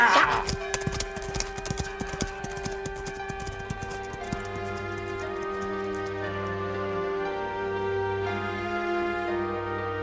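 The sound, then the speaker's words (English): A horse's hooves clip-clop in a quick, steady rhythm, loud at first and then fading away as a sustained musical tone hums underneath; Revere's horse is taken and ridden off. “Take his horse and let's go.”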